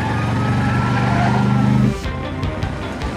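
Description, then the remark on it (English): The tires of a car with a rotating red light screech loudly around a corner in pursuit of a motor scooter, a steady, drawn-out squeal lasting about two seconds, then give way to a rougher rumble of the moving vehicle. “They screech around a corner in pursuit.”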